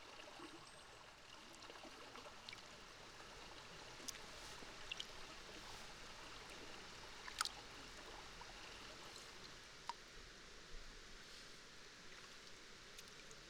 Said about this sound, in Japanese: ねえ、水の音、落ち着かない？私はこの音聞いてるとなんだか眠たくなる。心地よくって